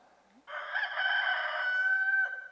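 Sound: rooster crowing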